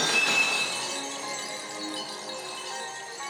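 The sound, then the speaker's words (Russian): A crystal coffin, struck with full force, smashes with a bright, loud crash, followed by shimmering ringing tones and tinkling shards that slowly fade over a few seconds. No voices are heard. “И о гроб невесты милой он ударился всей силой, гроб разбился.”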